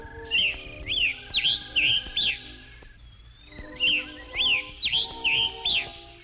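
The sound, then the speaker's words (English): A scarlet tanager sings two bursts of hoarse, burry whistled phrases, about four or five quick notes each, separated by a brief pause, over faint steady background tones. “Kapler has failed to mention is Dvorak's friend, or friendly enemy, his damned bird, the scarlet tanager. Isn't the rhythm of its song?”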